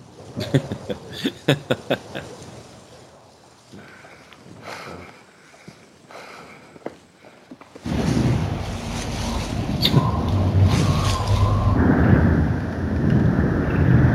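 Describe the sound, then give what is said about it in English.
Leaves rustle with light, scattered crackles at first, then a steady, loud rush of wind through foliage takes over and roars on without a break. “Gently rustling leaves.”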